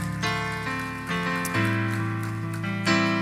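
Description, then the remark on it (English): An audience claps their hands to the Lord during worship in a steady, dense, rain-like patter beneath loud sustained keyboard chords that shift pitch every second or so. No one speaks. “Come on, clap your hands to the Lord one more time and let's worship him together.”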